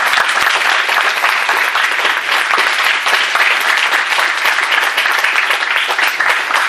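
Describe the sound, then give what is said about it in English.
A crowd at a community event applauds its helpers loudly and steadily, many hands clapping in a dense, sustained wash of sound that holds at an even level throughout, with no voices standing out. “So I'd like to give them a big round of applause.”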